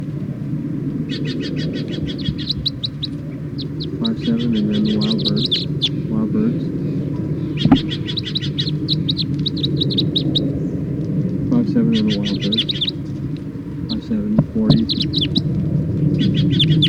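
Several captive birds chirp and trill in repeated high-pitched bursts over a steady low rumble, the calls coming in clusters every couple of seconds.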